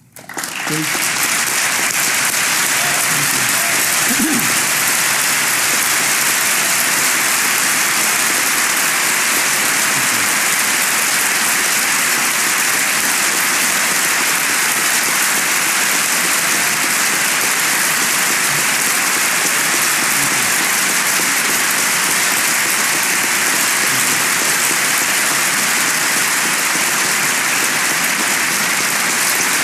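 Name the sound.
audience applause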